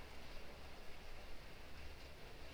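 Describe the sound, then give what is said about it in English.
Steady, soft rainfall patters on surfaces in an even, continuous hiss, with no distinct drops standing out and no voices. “Just observing your sensations, the sounds of the rain landing on different surfaces.”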